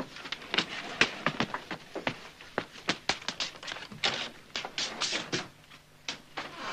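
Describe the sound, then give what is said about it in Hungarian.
Footsteps of someone walking around shuffle and tap about in quick, uneven succession, with a couple of dozen sharp knocks on a hard floor, fairly quiet, with no voices. “Ki van ott? Ki járkál ott?”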